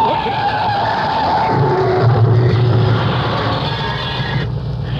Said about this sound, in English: That was a nasty bump. Better back my car up and get onto the shoulder. I'm sorry. It was a blind corner. How did I know he was going to stop short at his house?